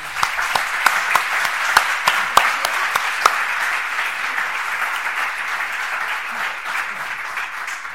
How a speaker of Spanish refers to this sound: La tenemos aquí, le damos un fuerte aplauso y la palabra.